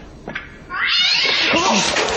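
A loud, harsh cat caterwaul erupts after a brief quiet moment, a drawn-out rising yowl with screeching harmonics that sustains piercing to the end.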